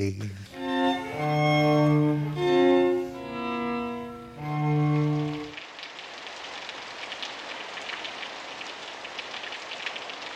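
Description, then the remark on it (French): A voice holding long, sustained tones opens, then steady rain takes over: a dense, even hiss and patter of drops that continues at moderate loudness to the end. “Mais je dois dire que le son de la pluie me fait toujours de l'effet.”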